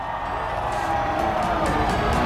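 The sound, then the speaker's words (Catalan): The main grandstand crowd at Sepang applauds as Enea Bastianini arrives and hugs his team, a dense, steady wash of clapping and crowd noise, holding an even loudness throughout with faint recurring bursts of sharper claps. “Els aplaudiments de la graderia principal de Sepang en el moment que arriba Enea Bastianini abraçant-se amb el seu equip.”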